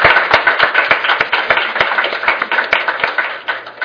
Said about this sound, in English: But before we do that, I do want to give a round of applause to all the speakers who did a fantastic job.